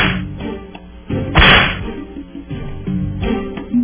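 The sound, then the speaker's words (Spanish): Three sharp whip lashes crack out one after another, the middle crack loudest and most explosive, set against a dense, rumbling musical background with no talking. “Vamos con los tres latigazos para los directores de la Policía Nacional Civil.”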